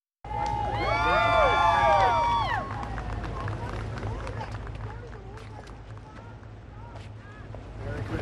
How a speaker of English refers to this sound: President Trump and First Lady Melania were greeted with cheers as they attended a music-filled Christmas Eve church service at Family Church in West Palm Beach, Florida.